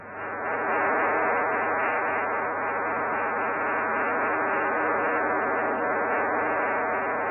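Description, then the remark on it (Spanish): A steady, dense buzzing of many stacked data tones from multiplexed radio carriers, which carry voice, teletype, telegraphy or telemetry at the same time: an unbroken warbling drone at even loudness for several seconds with no voices. “muchos mensajes como voces, teletipos, telegrafía, telemetría o cualquier cosa pueden ser enviados al mismo tiempo a través de estos carriers, que naturalmente necesitan un codificador para ponerlos aparte a cada uno.”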